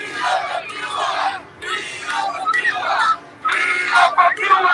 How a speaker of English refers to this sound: And as protests continue in Cuba, Cubans here in the U.S. are taking to Washington, D.C. to do the same. Yesterday, hundreds from all over this country gathered in front of the White House, shouting their demands to President Biden to do more.